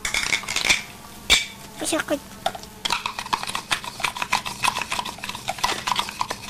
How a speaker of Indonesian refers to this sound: Saya cuci mangkuknya aja deh. Ini, bersih. Piringnya lagi. Bilas. Bilas.